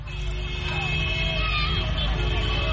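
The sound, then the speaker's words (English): Busy street traffic roars steadily while car horns blare in long sustained tones, with a murmur of crowd voices mixed into the constant rumble of vehicles whizzing past the presidential palace in Bissau, Guinea-Bissau, on New Year's Day, waving red and white scarves of Umaro Sissoko Embalo. “Guinea-Bissau cars whizzed past the presidential palace on New Year's Day, honking and waving the signature red and white scarf of candidate Umaro Sissoko Embalo”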